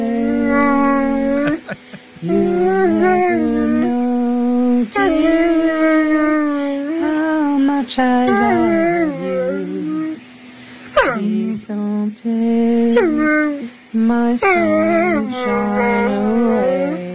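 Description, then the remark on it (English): A dog howls in long, wavering tones that slide up and down, joining a person singing. The howls are loud, breaking off in short pauses between phrases. “But if your dog can do that,”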